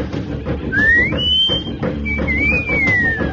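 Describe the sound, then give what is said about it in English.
A two-part wolf whistle, a rising glide followed by a longer swoop up and down, shrill and fairly clear over a loud, busy crowd murmur. “I'll give her the wolf whistle.”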